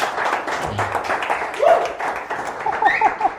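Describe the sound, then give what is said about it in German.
An audience at a photography talk applauds steadily on request, with dense overlapping claps for a few seconds and a few short whistles or cheers rising above it near the end. “Ja, einmal Applaus bitte.”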